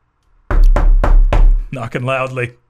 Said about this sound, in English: Knocking loudly.